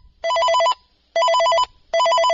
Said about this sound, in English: So anyway, that's the one. Again, mine's kind of boring, but at least I know it's my phone ringing, and I kind of gotten used to it.